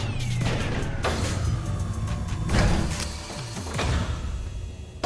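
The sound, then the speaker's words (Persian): A car being driven back inside rolls along with a low rumbling engine, broken by a few sharp thumps and clunks, and a faint whine sweeps downward early on. Fairly steady, with no voices. “خیلی خوب، دارم برمیگردونم تو.”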